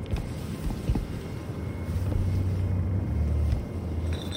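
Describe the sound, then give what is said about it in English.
An empty glass bottle spins on a wooden table, making a steady low rolling rumble that settles into a droning hum midway before easing off. “The sound of glass gliding across wood became a droning sound of impending danger.”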